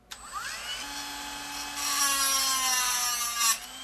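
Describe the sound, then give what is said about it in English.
A small electric saw that looks like an electric toothbrush whines steadily as it cuts a bone sample to find out how old the bone is, in an office of animal bone samples at the University of New Mexico. Its high buzzing pitch shifts and grows harsher midway before cutting off abruptly. “Figuring out how old a bone is starts with a saw that looks awfully like an electric toothbrush.”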